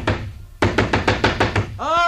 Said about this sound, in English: Back before that, when there were no telephones, it was that infernal pounding on the door.